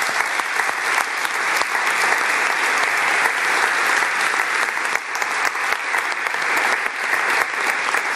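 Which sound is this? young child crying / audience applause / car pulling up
audience applause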